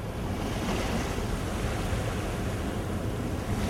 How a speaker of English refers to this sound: Notice the waves gently lapping in the shore. Listen to the waves gently, repeatedly lapping in the shore.